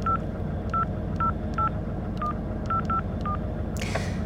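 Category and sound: signal or alarm, telephone number being dialed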